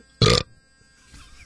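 A single short, loud burp, made on command, bursts out near the start, forced and throaty, followed by quiet and a faint breathy rustle at the end.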